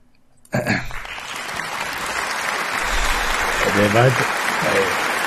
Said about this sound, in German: Das war der langsamste Applaus, den ich je gehört habe. Du musst erstmal nachdenken.